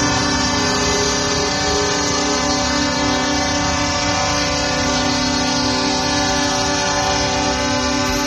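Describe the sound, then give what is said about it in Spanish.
Horns of hundreds of taxis and the deep air horns of 8 trucks blare together without pause during a slow protest march from the airport to the Parlament in Barcelona, a loud, steady, droning wall of overlapping tones. No one speaks. “Durante 3 horas, centenares de taxistas han colapsado Barcelona con una marcha lenta desde el aeropuerto hasta el Parlament. Les han acompañado también 8 camiones y durante todo el recorrido este ha sido el sonido.”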